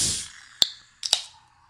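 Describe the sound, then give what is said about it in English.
A beer can with a pressurized nitrogen widget ball being opened, the ball bursting open and releasing nitrogen: a fading hiss, a sharp metallic crack, then a quick double pop with a brief fizzing rush that trails off. No voices. “as soon as I open it, that pressure, the pressure inside the ball is greater than the outside, and it blows it open, and then it throws all this nitrogen, which gives it this really smooth and creamy pour.”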